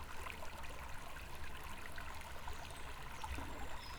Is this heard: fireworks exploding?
no